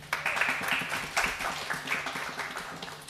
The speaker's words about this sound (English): So, okay. Round of applause.